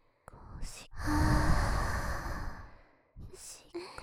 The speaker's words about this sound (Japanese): こっちの耳にも吹きかけてあげます。私の熱い吐息、耳が火傷しちゃうような私の口の中の温かい空気を耳の奥に届くように。